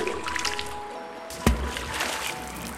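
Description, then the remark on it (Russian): Seawater trickles and sloshes steadily at a moderate level at the seashore, with a single sharper splash about halfway through as the end of a rope is dipped into the sea. No one speaks. “Там он стал веревку крутить, да конец ее в море мочить.”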